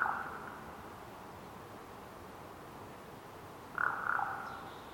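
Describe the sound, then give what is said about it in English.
Two hoarse, croaking calls of a raven in a Pacific Northwest forest, one at the very start and another a few seconds later, rising moderately loud over a steady hush of outdoor forest ambience. “Well, here, right now, I'm going to edit in the sound of a raven in the Pacific Northwest forest.”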